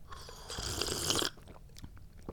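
A cat in a bathroom crunches dry kibble, a dense burst of gritty chewing for about a second, then a few scattered quieter crunches and clicks. No voices.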